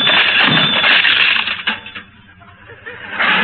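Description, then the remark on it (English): A telephone is ripped out of the wall by the roots with loud, harsh crunching and tearing clatter, dipping briefly into scattered rattles before a final burst of grinding noise. “I'll rip out the phone by the roots.”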